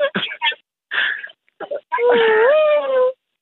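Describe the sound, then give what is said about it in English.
A woman whimpering like a puppy: a few short, choppy whines, then a longer, drawn-out nasal whine that bends upward in pitch, fairly loud with no words. “You actually sound like a puppy, just whinging.”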